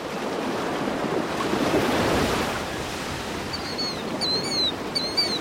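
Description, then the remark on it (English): Ocean waves crash in a broad, roaring wash that swells loudly and slowly recedes, with thin high cries briefly piercing the surf toward the end. “Waves rolling through the ocean look completely separate from the salty air above as they crash down and sink back into the depths.”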